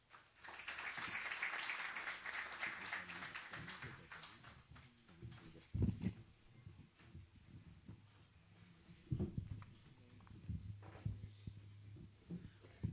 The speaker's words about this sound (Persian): با تشویق و همراهی شما عزیزان درخواست کنم که خدمتشون باشیم.